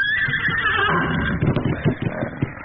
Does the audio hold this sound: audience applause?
no